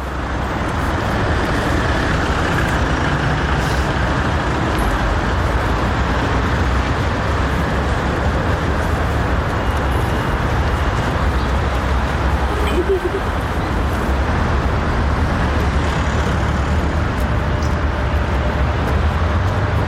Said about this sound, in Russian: Там большая пробка.